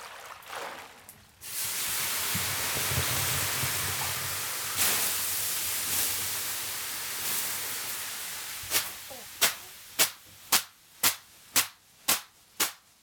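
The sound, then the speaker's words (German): A loud, steady hiss of water poured on hot stones in a wood-heated sauna lasts several seconds, then gives way to around ten sharp, evenly spaced slaps of a bundle of birch twigs. “Das klingt interessant, das Zischen, Aufguss, klar.”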